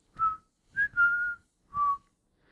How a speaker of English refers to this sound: Wow. I don't even know if I could do Pop the Weasel with whistling.